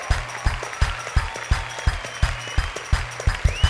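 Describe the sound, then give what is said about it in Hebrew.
An audience claps together for band members being introduced at a concert, in a steady, quick rhythm, the sharp beats landing evenly about three times a second, with a low musical hum sustained underneath. “נו כפיים”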